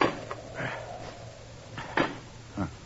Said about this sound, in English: You ever see a man chopping wood before?